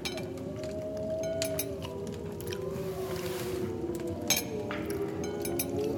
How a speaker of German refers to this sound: Hören Sie? Wölfe. Ja, die Kinder der Nacht. Was für eine Musik sie machen.